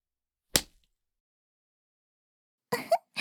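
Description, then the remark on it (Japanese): A single sharp lash of a riding crop, a whip bought for horseback riding, snaps out and cuts off quickly. After a long silence come short breathy vocal sounds, like gasps or moans. “このムチはお父様が乗馬用に飼ってくださったものなの。 いい音がするでしょう。”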